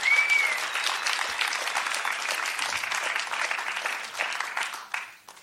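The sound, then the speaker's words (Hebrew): Loud, stormy applause from a large audience welcoming an arriving speaker, a dense steady clatter of many hands clapping that holds strong throughout and starts to thin out only at the very end. “והנה הוא מגיע, חברים, קבלו אותו במחיאות כפיים סוערות,”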